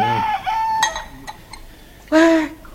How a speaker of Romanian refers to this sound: Ce înseamnă asta? Un cocoș? Cum se face că avem un cocoș viu în dispozitivul regimentului?